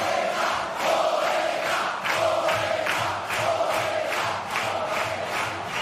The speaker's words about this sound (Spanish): Pero se lo ha ganado ahí ese grito, ese aplauso de todo este público.